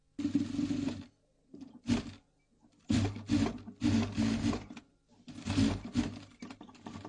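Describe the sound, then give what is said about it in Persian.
A sewing machine at a tailor's in Sanandaj, Kurdistan, sewing Kurdish clothing, runs in several bursts of steady whirring and clattering, stopping briefly between runs; loud, with no talking. “بله عزیزان همراه، شنونده های جان، خیلی خوش آمدید به دومین بخش گزارشی برنامه صدای چرخ خیاطی.”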